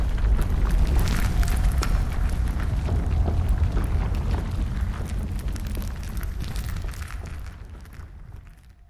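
A heavy, rumbling crash of a ceiling caving in, with dense low-end roar and scattered cracking debris that gradually thins and fades out over several seconds.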